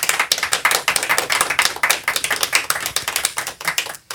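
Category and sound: crowd, audience applause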